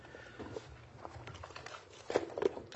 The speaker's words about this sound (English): I want to be done with my rustling of papers so I can be 1,000% focused on all of the things you have to say.